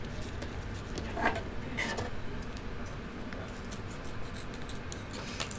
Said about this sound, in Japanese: 今一番活躍してるのはハサミですね。 そうですねやっぱ刃物って大事なんだなって感じ。